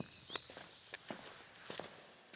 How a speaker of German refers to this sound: Und schon nach ein paar Schritten rein in die Höhle sind wir in einer eigenen Welt. Schattig, schummrig.